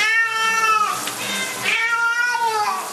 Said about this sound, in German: Wir haben während der Dusche 2 Verhaltensweisen untersucht. Das waren auch die einzigen Verhaltensweisen, die für die Katze in dieser Zwangssituation möglich waren. Das war Vokalisation, also wenn die Katze miaut hat, und Lokomotion.